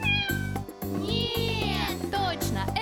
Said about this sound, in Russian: Кошка! Да!